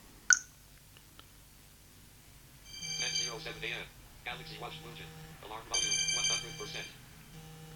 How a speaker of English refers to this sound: That's the Samsung Galaxy S10 going off. It's going to find it now.